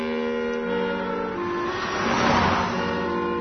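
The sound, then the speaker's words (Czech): A car approaches and sweeps past, its engine hum joined by a rising hiss of tires splashing water from the roadway that peaks midway, then begins to fade. No voices. “Baš u tom trenutku prođe automobil, pljusnu vodu sa kolovoza”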